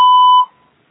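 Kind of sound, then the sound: signal or alarm, voicemail beep tone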